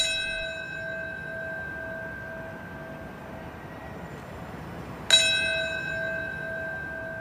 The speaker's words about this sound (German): So wurde zum Beispiel im Gedenken an den Jahrestag des Attentats von 9/11 bei Ground Zero in New York eine Glocke zweimal angeschlagen. Einmal zum Zeitpunkt, als das erste Flugzeug in den Tower flog und dann das zweite.